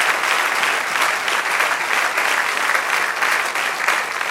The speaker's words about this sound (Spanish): Aleluya, dele aplauso al Señor. Amén.